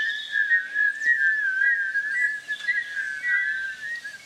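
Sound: birds singing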